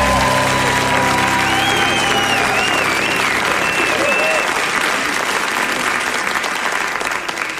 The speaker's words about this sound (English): 5 million people clapped for me just then.